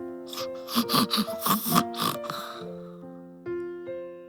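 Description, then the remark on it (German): A small child snoring softly while asleep in a child's bed in a dark children's bedroom late in the evening: a quick run of little snorting, grunting breaths that fade into gentle sustained musical tones. No one speaks. “Ab und zu hörte man einen kleinen Seufzer. Seufzer. Oder Schnarcher.”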